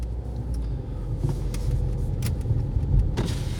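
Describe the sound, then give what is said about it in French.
A rental car in Aubervilliers, France, at 8:15 pm idles with a steady low rumble while an electric window whirs down, punctuated by a few soft clicks and knocks. No one speaks. “Voiture de location. Aubervilliers. 20h15.”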